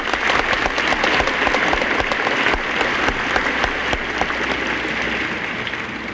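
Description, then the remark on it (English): An audience applauds Ms. Clooney, Ms. Remick and Danny Thomas, a dense wash of many hands clapping at an even, sustained loudness for several seconds with no one speaking over it. “I wish we could all just applaud them.”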